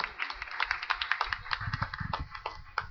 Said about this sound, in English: Round of applause. Very good. Yay.